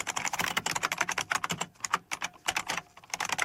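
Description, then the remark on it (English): Rapid typing of dictated text on a Dvorak computer keyboard, a dense run of crisp key clicks in a quick, fairly steady rhythm with brief pauses, moderately loud, no voices. “And I'm going to dictate so we can possibly hear this famous Dvorak rhythm.”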